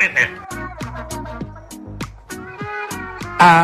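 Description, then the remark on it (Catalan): A voice imitates a cat's meowing call meaning food, producing a rapid series of short, pitched mews in a quick rhythmic run, fairly loud, ending with a brighter, sharper cry. “Per tant, si teniu un gat a casa, deixeu que escolti això a veure si reacciona a la crida per menjar.”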